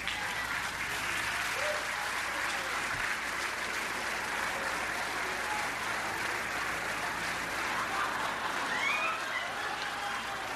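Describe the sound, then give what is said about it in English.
A large crowd claps and cheers in a steady, dense wash of applause that holds at an even, loud level for the whole stretch, with faint shouts mixed in, reacting to Governor Gavin Newsom's young son wandering the stage holding a little blanket. “What the crowd's reacting to is the young son of Gavin Newsom, who the governor was holding, now being sat down and wandering the stage holding what appears to be a little blanket.”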